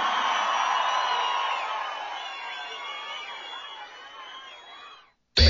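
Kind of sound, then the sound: crowd, crowd cheering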